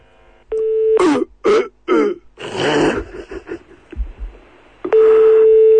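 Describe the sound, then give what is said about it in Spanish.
A steady phone tone gives way to several loud, forced, exaggerated coughs in quick bursts, then a longer overacted hacking fit that tapers into rough breathing before the tone returns. “Eso era toser. Se exagera.”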